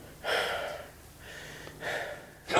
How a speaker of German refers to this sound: Er atmet schwer. Ey, das ist so scheiße.